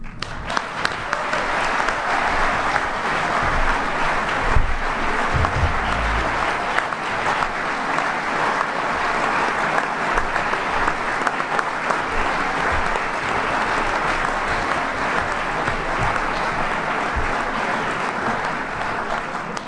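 Sustained audience applause, a dense, steady wash of many hands clapping at an even loudness for about twenty seconds with no pauses or voices standing out.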